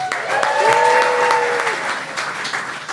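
An audience claps steadily for about three seconds to welcome a guest joining a show's panel, a dense crackle of many hands at fairly even loudness, with a brief tonal whoop or whistle rising above it early on.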